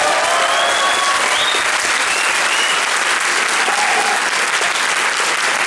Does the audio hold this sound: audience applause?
yes